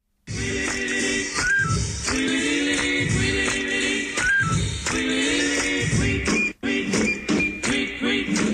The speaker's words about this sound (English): That's the music for news from social media.